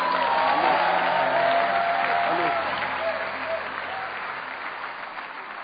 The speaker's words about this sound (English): Come on, clap your hands and shout.